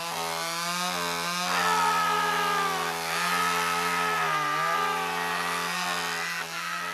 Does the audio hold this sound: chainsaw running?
yes